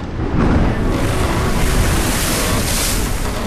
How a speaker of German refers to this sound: Auf dem Weg zurück nach England geriet unser Schiff in der Karibischen See in ein schweres Unwetter.